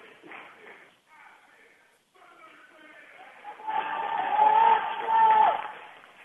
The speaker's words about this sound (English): Fine round of applause by all of the players from the crowd here at our regional tournament.